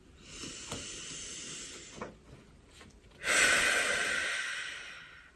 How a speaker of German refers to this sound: Nehmen wir mal einen tiefen Atemzug gemeinsam. Nimm mal deine Hand, deine linke Hand, intuitive Hand, auf dein Herz und atmen wir mal zusammen tief ein und aus.